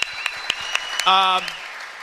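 An audience applauds steadily, with a few sharper claps popping out at a regular pace, while a brief buzzing harmonic tone sounds midway through. No one speaks.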